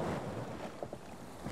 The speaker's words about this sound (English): The ship sailed for weeks across the Atlantic Ocean.